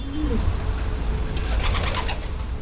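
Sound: racing pigeons cooing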